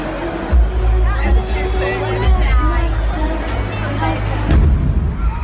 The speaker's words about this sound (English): Here's some of the audio just as the explosion went off.